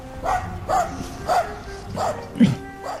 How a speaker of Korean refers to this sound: 그는 잠시 생각을 해보더니 앞으로 가서 문을 밀쳤다. 안에서 개가 짖었다.